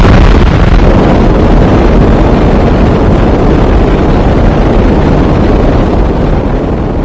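A loud, steady roar like a rocket or airplane fills every moment, a dense rumbling wash of noise that stays constant with no voices.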